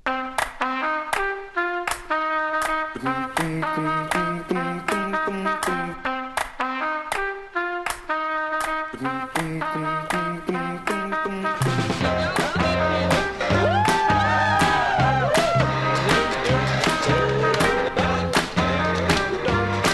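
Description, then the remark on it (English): A live bootleg recording of a song from an early show played in the woods behind a festival: a sparse, bright picked melody of repeating notes opens, then around halfway a fuller band with drums and a wavering sung vocal kicks in, louder and denser. “Yeah, that was from a bootleg, actually.”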